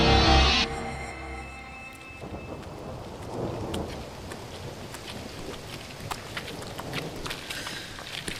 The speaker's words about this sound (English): Sounds like a storm. Atmospheric disturbance, not a good sign.